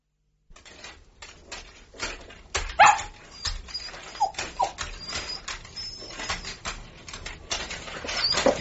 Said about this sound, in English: can you do something about your dog? Where are you? The dog's gone mad. For the last half hour, he's been trying to get into the toilet.